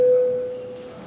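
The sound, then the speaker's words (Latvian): A single steady electronic bell signal, called for before a vote on a proposal in a parliamentary chamber, sounds clearly for about half a second, then cuts off, leaving faint room noise. “Paldies, lūdzu zvanu.”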